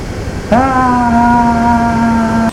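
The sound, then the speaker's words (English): Airplane engines climbing to a cruising altitude of 33,000 feet on a seven-hour flight: a steady, droning hum kicks in abruptly after a brief rumble and holds at one pitch, loud, with a faint rushing noise underneath. “Right, let's climb to our cruising altitude for this 7-hour flight.”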